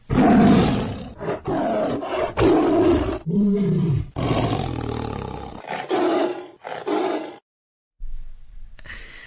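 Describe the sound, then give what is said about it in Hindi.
A tiger roars repeatedly, several deep, rasping, loud bursts, each separated by short pauses, followed by a brief silence and a quieter rumble at the end. “आज अंतर्राष्ट्रीय बाघ दिवस है।”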